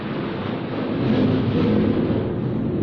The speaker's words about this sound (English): Every time we mention demons, one of those planes flies by.